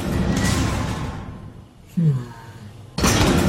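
heavy vault door opening

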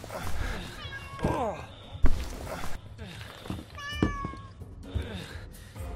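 cat meowing

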